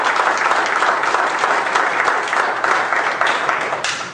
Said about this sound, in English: Give the Lord a hand of applause for the time.